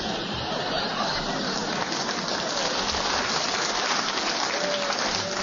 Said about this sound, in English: I think the audience applause endorses the shrewdness of your challenge.